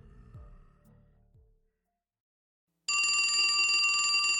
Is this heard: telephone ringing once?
yes